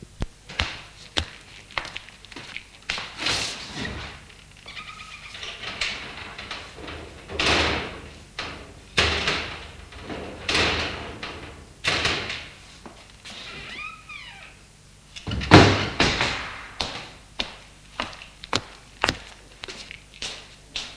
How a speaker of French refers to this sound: Son père ouvre les volets